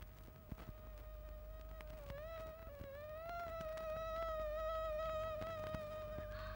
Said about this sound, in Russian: Кто это? Комары? Да-да. На смену мухам прилетели комары. Господи! Они ни на минуту не умолкали, зудели и кусались, кусались и зудели.